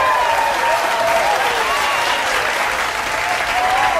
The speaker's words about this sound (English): Hey, and a little round of applause for our new guest,